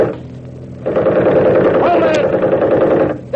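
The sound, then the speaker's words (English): A loud machine gun fires in a sustained, rapid rattle of shots for over two seconds after a quieter, rumbling opening, then cuts off abruptly. “The minute I open up with the rifle, smack them with the machine gun.”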